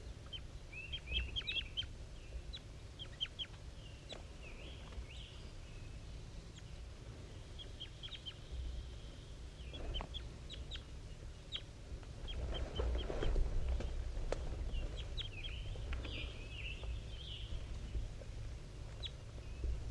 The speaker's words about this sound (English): Wild bird and 5-3 still calling back and forth.